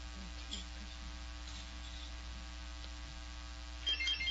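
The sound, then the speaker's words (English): A short electronic quiz-game buzzer sounds once near the end as a contestant presses it during a buzzer test, brief and fairly quiet, rising over a steady low hum with no one talking. “So it's very important that everybody's buzzer is working. So let's quickly do a test.”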